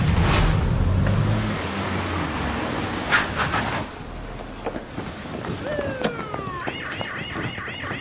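A car engine rumbles for the first few seconds, then fades into road noise as rising electronic siren-like chirps and warbles sound near the end.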